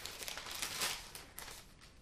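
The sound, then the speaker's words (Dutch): A soft rustle of paper as pages are flipped back half a page, with a few crisp crinkles over about two seconds and no talking. “Want ik moet een halve bladzijde terug.”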